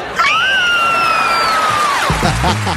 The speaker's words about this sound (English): Oh. I'm so excited. I could scream. Want to do it with me? Guys, ready?